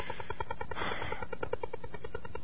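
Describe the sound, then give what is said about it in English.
A Soviet over-the-horizon radar signal, designed to track airplanes and ships, pulses rapidly and steadily through shortwave radio static, a continuous mechanical tapping of about ten beats per second, with no voices. “But I've studied it in depth, and I'm pretty convinced that it's an over-the-horizon radar, which was designed to track airplanes and ships.”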